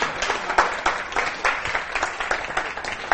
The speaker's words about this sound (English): Hey, okay, just like uncontrollable praise for you. You are the best clapping Chinese church I've ever been to in my life. Good job.